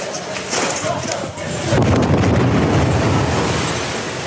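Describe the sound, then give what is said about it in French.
A second explosion outside, in a war zone, rolls in as a muffled boom, swelling into a sustained low rumble that fills the rest of the moment, with indistinct voices and commotion underneath. “Deuxième explosion à l'extérieur.”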